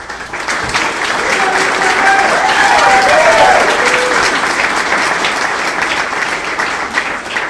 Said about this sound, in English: who obviously brought his own cheering section. I mean, if it travels with you.